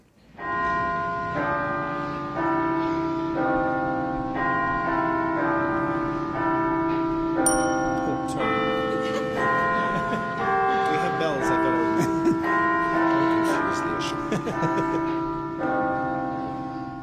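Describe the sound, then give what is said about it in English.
Church bells from the opening of Puccini's opera Suor Angelica, calling the sisters to service in the convent, chime steadily for the whole stretch, ringing tones layered and overlapping with a full, resonant hum, fairly loud, with a brighter strike partway through. “adding your own bell there.”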